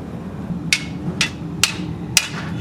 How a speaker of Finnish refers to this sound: Ja sä vaan napautit tota pilliä, niin se katkesi siinä.